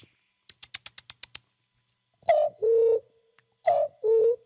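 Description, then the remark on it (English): Seven quick keypad beeps tap out a number on a cell phone in rapid succession, followed by two rounds of a two-tone electronic ringing signal, clear with no voices. “Tell you, use your cell phone. Oh, sorry. Let me switch phones.”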